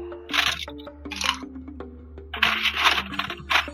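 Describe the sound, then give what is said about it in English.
An ice machine drops ice in several clattering bursts of hard, rattling clinks, with short pauses between, over a steady low hum. No one speaks. “It's an ice machine.”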